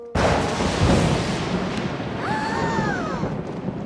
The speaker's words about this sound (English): It's just thunder, Max. Don't be scared. I'm not scared. I'm big! It is a little loud. Woohoo! I just love thunder! It's so rumbly and tumbly. Oh, I don't. I hate thunder. It's noisy and scary and...